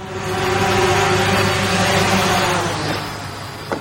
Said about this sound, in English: Here's a little promotional video for Amazon Prime Air, sound of a drone arriving at a doorstep, dropping a package, heading back to the warehouse.